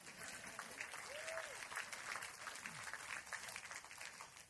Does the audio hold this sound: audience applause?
yes